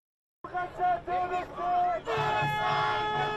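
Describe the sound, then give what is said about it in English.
A large crowd of thousands chants in unison while marching at a pro-Palestinian street rally in London, calling for a ceasefire in Gaza: loud rhythmic bursts of many voices that swell into a continuous roaring shout. “Thousands march at a pro-Palestinian rally in London.”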